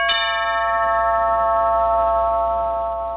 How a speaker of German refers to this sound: Dann klingelten sie an der Tür.